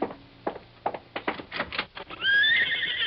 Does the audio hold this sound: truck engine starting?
no